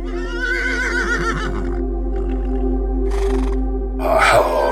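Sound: horse neighing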